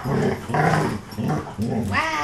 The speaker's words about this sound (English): We're going to get the dogs fighting. Really?